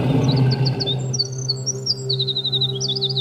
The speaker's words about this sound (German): Das Zaunkönigmännchen ist ein ungeheuerlicher Schnellsinger. Es singt 130 Noten in nur 7 Sekunden. Für den Menschen, dessen Gehör dafür nicht geschaffen ist, gleicht der Gesang des Zaunkönigs einem wenig schönen Genuschel.